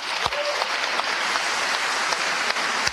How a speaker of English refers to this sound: Again, bipartisan applause here. Both sides of the aisle. Every Democrat, every Republican, as I look out, standing and applauding what the governor, Mike Parson, is saying.